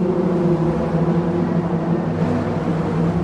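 A steady, droning hum of cars rolling over the metal roadbed of the Brooklyn Bridge, recorded underneath the bridge, echoing under its stone arch, with sustained buzzing tones like a swarm of bees and no talking.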